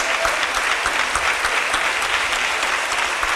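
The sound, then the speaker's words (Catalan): Steady, vigorous audience applause after a pregó (festival proclamation speech) fills the whole stretch, a dense wash of many hands clapping at an even, sustained loudness with no voices rising above it. “I continuen els aplaudiments. Amb força, amb ganes.”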